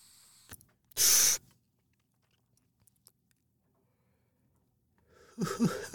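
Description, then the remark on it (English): A short, loud, airy hiss of someone drawing a hit of a Rainbows and Cherries sativa strain through a new Dynavap vaporizer product, followed by a long near-silent pause, then another rough breathy burst at the end, with no talking. “Listener, if you noticed a different noise when I hit that, that would be because I am trying a new product from Dynavap.”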